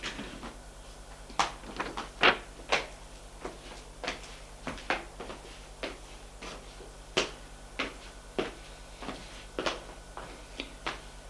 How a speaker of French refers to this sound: Frappe à la porte.